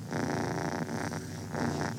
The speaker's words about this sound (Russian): А вот один из самых целебных в мире звуков – мурлыканье кошки.